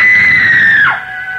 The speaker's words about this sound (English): The girl, screaming with rage, turned on him and buried her nails in his face, using the most frightful words that ever fell from the off-scouring of a guardhouse.